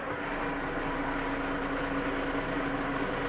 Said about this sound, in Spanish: ¡Ya viene! ¡Mira, ya viene! ¡Ay! ¡El camión de la basura!